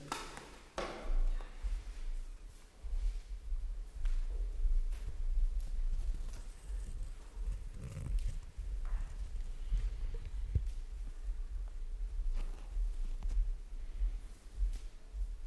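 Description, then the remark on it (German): Footsteps walking at an unhurried, uneven pace, each step a soft, dull thud over a steady low rumble, moderately quiet, with no one talking. “Dann gehen wir Schritte.”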